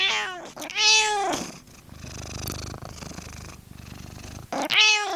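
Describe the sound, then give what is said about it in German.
A cat meows loudly twice, with a steady low purr rumbling between the calls, then a third meow at the end. “Und dass beim Katzenlaufrad Könner am Werk waren, bestätigt der Experte auf Samtpfoten.”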